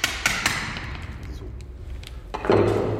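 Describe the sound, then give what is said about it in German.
Sharp metallic strikes as a chisel is hammered through the first layer of material to take an asbestos sample: a few quick blows at the start, then a louder, grinding crunch near the end, with no talking. “Mit dem Stechbeitel geht man dann einfach ran, schlägt die erste Schicht sozusagen durch.”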